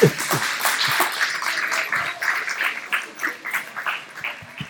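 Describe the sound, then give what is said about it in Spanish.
An audience bursts into steady applause, many hands clapping in a dense, crackling wash that holds fairly loud for several seconds before thinning slightly toward the end. “Un aplauso, por favor.”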